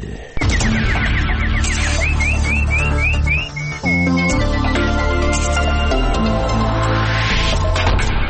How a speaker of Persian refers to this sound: اینک مشروع خبرها با چهچهی همکارم بلبل.